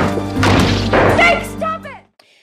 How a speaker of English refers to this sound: He fucking smashes a monitor.